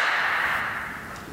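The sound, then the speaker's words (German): A sharp crack rings out into a long, washing reverberation of about four seconds, decaying slowly and evenly, bright and hissy in tone, with no voices present. The reverberation comes from sound-reflecting prisms turned to a smooth third surface with an edge. “Und jetzt sogar 4 Sekunden Nachhall.”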